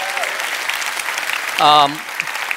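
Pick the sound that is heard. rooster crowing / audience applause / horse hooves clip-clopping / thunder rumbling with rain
audience applause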